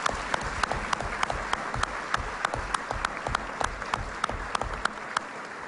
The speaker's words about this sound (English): And I thought that we might just, before we go into that, maybe ask the audience for a round of applause for our candidates to give them just a little bit of...